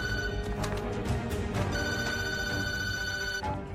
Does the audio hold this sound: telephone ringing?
yes